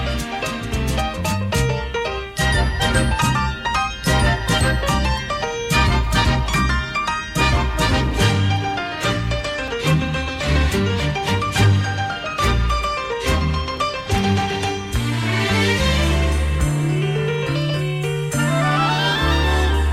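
A loud, continuous choral piece with ringing bell tones, layered voices and instruments building steadily for the full length with no talking over it.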